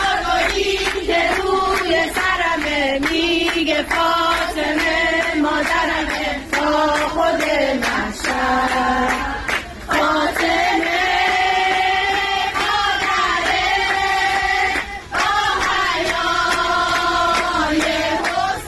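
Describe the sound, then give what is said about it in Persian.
A group of Basij women who have taken over a metro carriage sing an anthem in praise of compulsory hijab together in unison, a steady melodic chant with sustained, wavering notes and brief pauses between phrases, loud and continuous throughout. “اینه که خواهرای بسیجی جمع شدن توی واگن مترو و اونجا دربست گرفتن واگن و همه با هم سرودی در مدح حجاب اجباری خوندن.”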